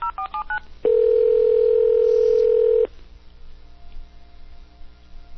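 A quick burst of touch-tone dialing beeps is followed by a steady, loud ringback tone held for about two seconds, then a quiet line hum remains.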